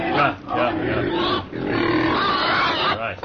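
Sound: pigs grunting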